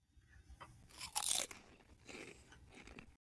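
Crisp, crackling crunches of someone biting and chewing chips, a brittle burst of loud crunching followed by softer irregular chomps over a few seconds, with no talking.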